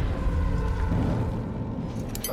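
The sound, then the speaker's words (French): Surface-to-air missiles exploding into an aircraft in flight over the Ural Mountains, heard as a deep, loud, continuous roaring rumble that fills the whole clip without a sharp single bang. No one speaks. “Ce sont des missiles sol-air. L'avion est touché.”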